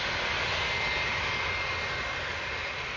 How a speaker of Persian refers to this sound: ساعت 6 صبح به وقت واشنگتن بود که ژنرال وارنر با اتاق سری تماس گرفت و خبر داد که هواپیماهای C-130 از فرودگاه مسیره به سمت تبس به پرواز در آمدند. به این ترتیب هواپیماها کمی زودتر از بالگردها می رسیدند.